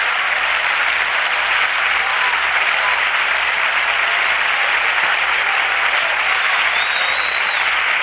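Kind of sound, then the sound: crowd, audience clapping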